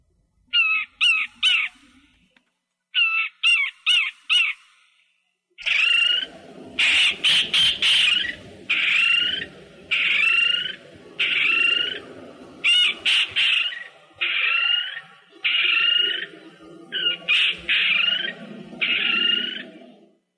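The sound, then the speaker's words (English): Harsh, grating calls of a Micronesian kingfisher, recorded in 1978, repeated in quick bursts: first short clipped triplets, then a long steady series of loud raspy notes over a low rumbling background hiss. “Today, we share the story of the plight of a bird known as the Micronesian kingfisher. The calls you're about to hear were recorded back in 1978.”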